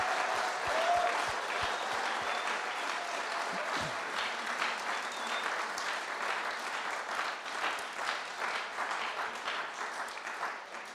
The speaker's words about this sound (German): Ich würde sagen, wir geben einfach mal einen riesen Applaus für alle, die mit dabei waren.